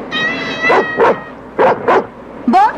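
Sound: dog barking and yipping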